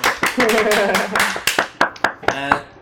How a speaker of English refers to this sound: Someone's clapping.